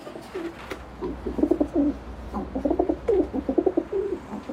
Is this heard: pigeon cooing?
yes